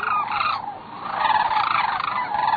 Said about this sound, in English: Every morning, a test flight of scouts would lift off and attempt to get around a nearby cape. The birds aloft chattered to the birds in the slough, the birds in the slough answering excitedly, but it wouldn't be long before the tone changed.